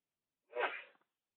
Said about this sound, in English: sneezed loudly.